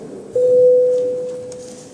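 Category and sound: signal or alarm, parliamentary voting bell tone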